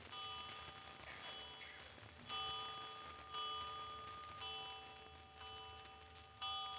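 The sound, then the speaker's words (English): A bell-like chime strikes seven times at a slow, even pace, each ringing tone sustaining into the next over faint background hiss, with no talking. “Did you count the chimes?”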